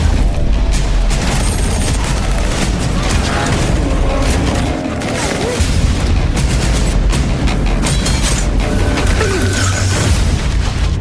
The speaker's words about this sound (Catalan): Martini a punt per parlar de la pel·li que s'estrena demà divendres. Posem-ne el tràiler.